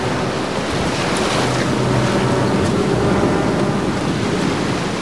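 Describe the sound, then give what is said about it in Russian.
A continuous, heavy roar of stormy Indian Ocean waves with gusting wind, loud, surging steadily without a break and no voices. “Смотри, как провожает гостя океан Индийский.”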